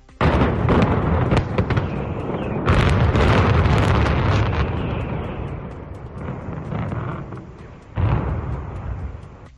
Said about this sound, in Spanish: Y también escuchamos ese testimonio del momento en el que Endesa voló las torres de refrigeración y la chimenea del grupo 3 de la central térmica de Compostilla 2 en Cubillos del Sil.